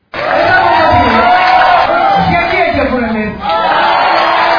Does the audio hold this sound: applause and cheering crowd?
yes